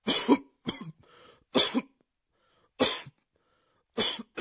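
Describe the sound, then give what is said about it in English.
A bad, hacking cough: about five harsh, raspy bursts at irregular intervals, fairly loud, with brief quiet gaps and no talking. “We use ゴホゴホ For a bad cough.”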